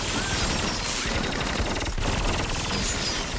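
Sustained automatic gunfire in a film scene, the shooters spraying left to right, rattles without pause, a dense, loud barrage of rapid shots layered over one another across the whole stretch, with no voices.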